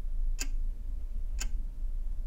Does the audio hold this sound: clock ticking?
yes